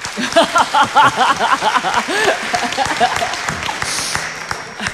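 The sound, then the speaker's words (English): An audience claps and applauds in a dense burst, responding to whether they think a guest's parents were good, with someone standing, and scattered voices and murmurs mixed through the noise, loud at first before thinning slightly toward the end. “Somebody was really standing and applauding over here on the first part.”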